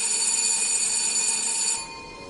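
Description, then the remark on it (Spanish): A service bell, rung at 2 in the morning to call an employee, rings with a bright, steady metallic tone full of high overtones, holding for nearly two seconds before cutting off into a faint lingering tail. No voices. “hasta que finalmente, antes de que tuviera tiempo de darse cuenta de lo que hacía, llamó al timbre.”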